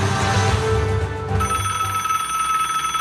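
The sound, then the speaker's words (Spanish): A classic mechanical telephone bell rings continuously, a loud, rapid metallic trill with bright sustained overtones, heard alone without voices for the full few seconds. “El 7 de marzo de 1876, Alexander Graham Bell patentó la invención del teléfono, algo que está en la vida de todos nosotros ya.”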